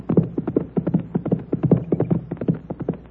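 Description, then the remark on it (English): A deputy's horse galloping past, a rapid, steady run of hollow hoof thuds, holding fairly even loudness throughout with no voices over it. “Here comes the deputy. I push from his horse.”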